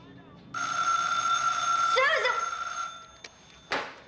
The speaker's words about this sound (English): the phone's ringing.